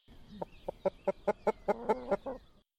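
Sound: hen clucking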